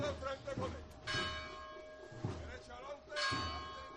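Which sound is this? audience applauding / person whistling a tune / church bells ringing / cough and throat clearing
church bells ringing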